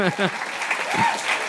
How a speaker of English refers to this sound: It's nice. People don't usually clap at my witty comebacks. But they should.